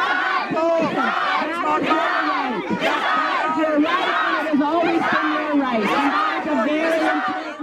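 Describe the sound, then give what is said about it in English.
A protest crowd at the 2015 Ontario sex ed protests shouts down the premier: many raised voices overlap in a loud, continuous roar of yelling that never lets up for the whole stretch. “She shouted down once again, and then she smirks.”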